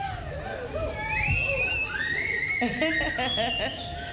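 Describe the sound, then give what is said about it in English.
A crowd whistles together, many overlapping shrill tones sliding up and down in pitch over a murmur of audience noise, growing busier and choppier toward the end. “Nice whistles. Everybody whistle.”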